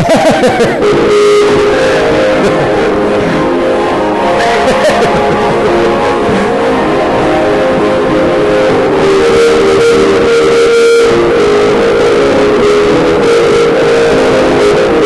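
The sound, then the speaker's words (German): Synthesized orchestral music, played by no one and produced only by a file driving electronic musical instruments, plays continuously at a steady, fairly loud level, with sustained layered chords and a reverberant tail and no voices over it. “die gesamte Musik aus wie ein Orchester sozusagen zusammengesetzt aus den einzelnen Instrumenten”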